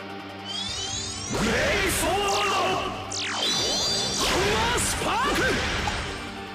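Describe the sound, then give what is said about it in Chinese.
Loud video game combat effects as a punch is thrown in the game: a rapid series of whooshing swings and punchy impacts, layered with sweeping electronic tones, continuing densely for several seconds with no talking. “打一拳打落去。”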